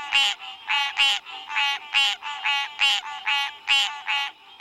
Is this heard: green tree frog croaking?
yes